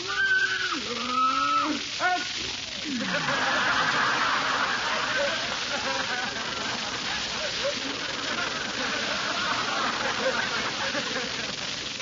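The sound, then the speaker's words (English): A horse named Leona, which has a little cold, gives a single sharp, breathy sneeze just after some brief tonal vocal sounds, then a steady rushing background noise fills the rest. “Bless you.”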